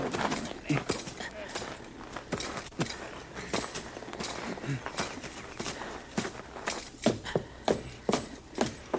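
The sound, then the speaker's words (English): A horse with a broken leg clip-clops in an uneven, halting gait. The sharp hoof knocks are irregular at first and settle into a steadier plodding rhythm toward the end. “His fellow's horse.”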